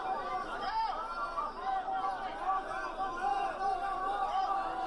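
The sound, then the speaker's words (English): A large crowd boos people who are bringing them food and aid, with steady, overlapping booing and angry shouts, a dense wall of wavering vocal tones that stays loud throughout. “There you go. They're booing them. Man, they're angry.”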